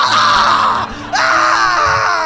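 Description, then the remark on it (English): A man's loud, anguished, raw screaming as he is being ripped to shreds, in two long sustained bursts with a brief catch of breath between them, and no talking. “And as the blood-curdling screams of a man being ripped to shreds, in fact, three men being ripped to shreds”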